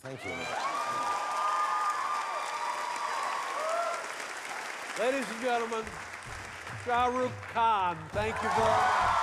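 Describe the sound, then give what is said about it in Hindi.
Loud, sustained standing ovation from an audience at a New York stage show as Letterman and Khan end their interview: the applause fills the whole stretch, with long cheering shouts and whoops rising above the steady wash of clapping, growing more excited toward the end. “दर्शक खड़े होकर तालियां बजा रहे हैं।”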